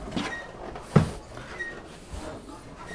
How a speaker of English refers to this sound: All right, let's see if we can open the door. All right, let's go.